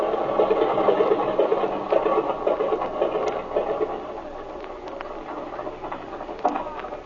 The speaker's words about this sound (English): All right, cut your switches, kid. The engine's cool enough.